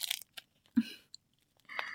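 Crackle of static tape being pulled and wound around two wrists to bind them together, a few short sticky rips followed by a longer peeling stretch at the end, with no talking.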